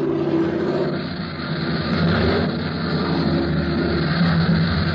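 A propeller plane's engine roars steadily and loudly over an airfield, a droning, throbbing hum that dips briefly and then swells slightly, as if the aircraft is drawing nearer overhead.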